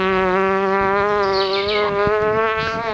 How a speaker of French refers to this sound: La mouche.